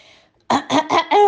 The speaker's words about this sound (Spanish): Vamos a toser, aclarar la voz.